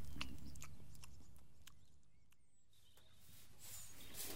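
Young animals being fed munch on tomatoes, with soft irregular crunching and wet clicking bites over a low, steady background rumble; no one speaks.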